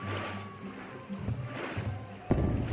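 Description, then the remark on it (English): Water sloshes and splashes steadily as a gondola is rowed along, with a louder splash near the end as an oar dips in; no one speaks. “I get to row it!”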